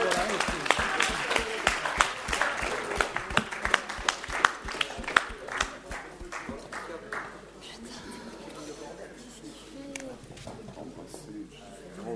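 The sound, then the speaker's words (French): An audience breaks into applause, a dense patter of many hands clapping loudly for about six seconds before thinning out, with voices and murmuring continuing underneath. “Merci, ben, applaudissements.”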